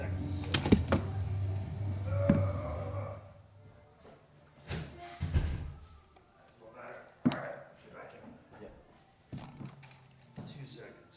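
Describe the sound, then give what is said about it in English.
A door is handled and pushed shut: a series of sharp knocks and thuds with some rattling and scraping between them, over a low background hum, with faint voices. “Let me close this door real quick before we talk about how much we love Bob Keller.”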